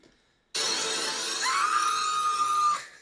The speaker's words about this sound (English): He just screams. See, to me, it seemed like he had a deep, guttural voice.